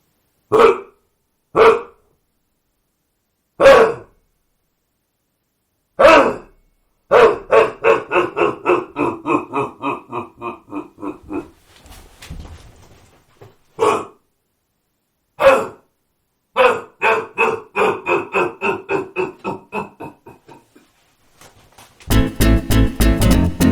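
A roe deer buck barks repeatedly, with single harsh barks spaced apart, then faster runs of rhythmic barking trailing off, loud, with no talking.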